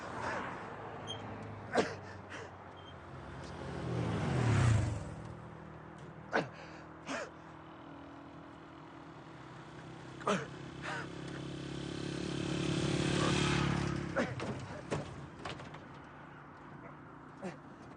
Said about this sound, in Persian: عمو این ماشین روشن نمیشه